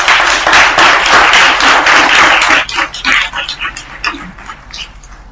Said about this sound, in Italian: Facciamo un applauso.